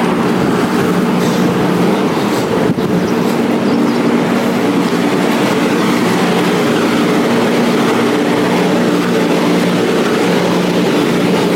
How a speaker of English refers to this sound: And the airstrip. You can probably hear a plane there. We've got a flight, one of our flights tonight, early hours tomorrow morning actually.